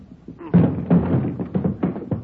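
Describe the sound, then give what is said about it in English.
A door is struck repeatedly, about six heavy, booming thuds at an uneven pace, loud, with a low resonant body to each blow. “Well, hit the door.”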